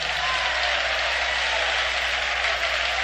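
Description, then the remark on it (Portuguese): A church audience claps steadily during a service, a dense, continuous wash of many hands applauding at an even, loud level for a few seconds with no voices standing out. “Quero ouvir palmas e glória a Deus.”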